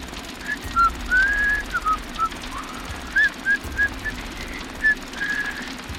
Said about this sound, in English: walked beyond the light of the looming Wicker Man, whistling as he went.